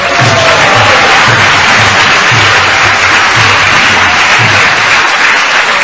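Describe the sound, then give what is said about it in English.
A large audience applauds loudly and steadily for several seconds, a dense wash of clapping with a faint regular low thump running underneath and no voices. “So I'm going to invite the devotees here with their names, so please come up quickly, and I know you want to clap, hold on, because I want to move this so that we can go take prasadam as well.”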